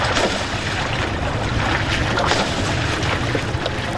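river water splashing

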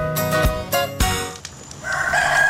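rooster crowing at dawn

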